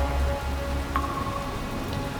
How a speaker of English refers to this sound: I just know that it is raining on your road, my brother.